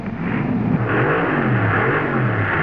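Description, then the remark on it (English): A car engine revs steadily and loudly, its pitch rising and dipping as it drives fast, with a constant rushing roar of road noise and no voices. “Going too long without a tune-up. Driving too fast.”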